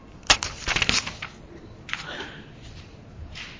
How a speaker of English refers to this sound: I always loved hearing the rustling of the pages.